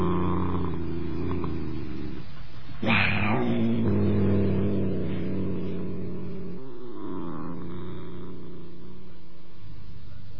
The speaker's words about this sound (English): But even more particularly, she found comfort in her cat, in the gentle, oh-so-comforting purr of her sleek, fat cat, Saladin. Dear, dear Saladin.